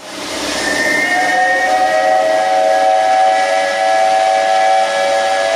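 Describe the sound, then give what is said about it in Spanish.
The steam whistle of the DAS sneaker factory in El Dorado, Misiones, blows in one long, steady, loud blast, its bright chord-like tones holding for several seconds over a hissy rush, with no voices. “Hoy el silbato de la fábrica de zapatillas DAS de la localidad de El Dorado suena a algarabía.”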